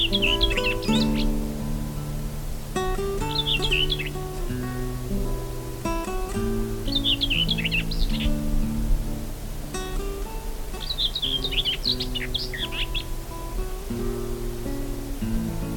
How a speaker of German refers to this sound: Das war die Dorngrasmücke.